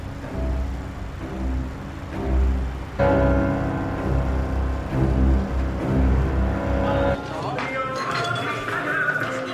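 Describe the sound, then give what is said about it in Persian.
A motorcycle engine rumbles steadily as it rides down a street, a low droning hum with a couple of sudden shifts in tone partway through, fairly loud throughout. “با موتور توی خیابون میره.”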